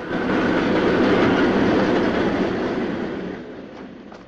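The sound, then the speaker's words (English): A train rumbles loudly past on the rails, a dense rattling roar with steady clatter that slowly fades as it moves away, with no voices present. “As another train rattles past, Joe picks his way over the rails”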